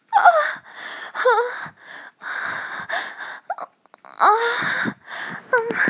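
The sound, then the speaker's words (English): Heavy, ragged breathing with loud gasps, about six breathy bursts in quick succession, some catching into short voiced moans, with no speech. “Breathing. Oh god, I love breathing.”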